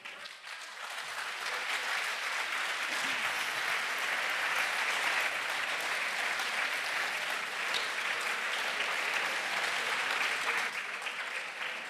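Sustained audience applause after a talk, a dense, steady wash of many hands clapping at an even loudness for about twelve seconds, with no voices rising above it.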